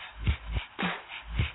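A dog lets out four or so short, muffled barks spaced across a second and a half, some with a whiny, whimpering edge, with no talking.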